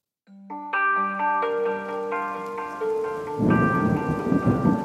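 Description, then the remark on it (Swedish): A thunderstorm with rain at the start of the rainy season in Congo: a deep rumble and dense rain noise swell in during the last second and a half, following layered, sustained ringing tones that build up one after another. No voices. “I december börjar regnperioden i Kongo och förhållandena i lägret förvärras snabbt för de hungriga flyktingarna.”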